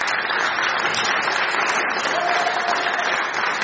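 An audience claps steadily for a few seconds, a dense, even wash of many hands with no breaks or swells, and no one speaking over it.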